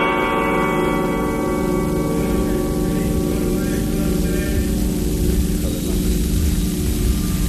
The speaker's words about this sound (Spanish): Me ha resultado muy curioso escuchar, Francesc y Eliseo, escuchar el toque a difuntos de las campanas de Valencia.